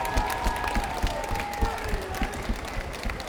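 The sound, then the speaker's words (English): A large crowd at an MMA cage fight in Gotham the Arena cheers and applauds both fighters steadily, a dense wash of clapping with shouts and whistles rising over it throughout, loud and sustained with no pauses. “So please raise a roof for both these warriors and respect inside Gotham the Arena.”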